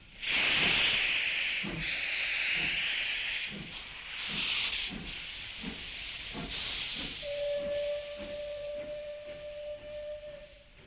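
A steam locomotive of an express train to Dover hisses loudly in bursts over a steady, rhythmic chuffing beat, and partway through a sustained mid-pitched whistle tone joins and holds to the end. No one speaks.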